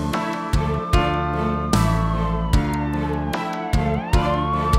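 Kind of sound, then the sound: vehicle, police siren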